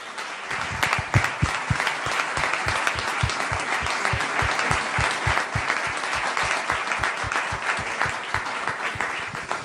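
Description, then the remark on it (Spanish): Sustained audience applause at a ceremony of two town councils celebrating 25 years of the official twinning of their municipalities, many hands clapping densely and steadily for about ten seconds at a fairly loud, even level, with no talking over it. “Y yo creo que este debe ser el primero de estos aplausos de esta tarde.”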